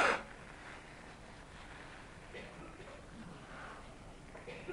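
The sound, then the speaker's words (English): A short, forceful nose blow from someone with a cold bursts out loudly right at the start, then fades into faint rustling and background hiss. “I'm afraid I contracted the Malinowski Memorial cold yesterday morning, so you'll have to bear with me while I blow my nose.”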